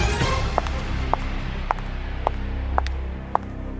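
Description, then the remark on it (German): Six crisp, clicking footsteps of black high-heeled stiletto shoes with a synthetic lacquer finish, 10 cm heels, size 39, at a steady walking pace, distinct over a low background hum, with no one speaking. “Das ist ein schwarzer Stöckelschuh mit Kunstlackfarben, Absatz 10 cm, Schuhgröße 39.”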